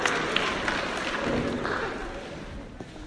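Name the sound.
round of applause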